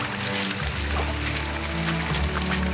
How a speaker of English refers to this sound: There's water cascading off the side of it. That's probably all of last night's rain.